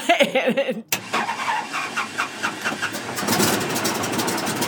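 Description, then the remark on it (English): A small open-cockpit airplane engine roars steadily with a pulsing drone as the plane takes off over the hills of Fredericksburg. The sound grows louder and fuller partway through as it powers up for takeoff, after a brief voice at the start. “We take off, soaring over the rolling hills of Fredericksburg, dotted with ash junipers and mountain laurels.”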